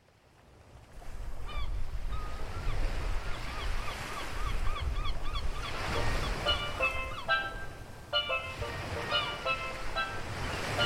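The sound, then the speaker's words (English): Steady surf rumbles along a beach in Plymouth while gulls call out again and again, their sharp, overlapping cries growing busier and louder over the rushing waves. “Officers have located Penny Farthing on a beach in Plymouth.”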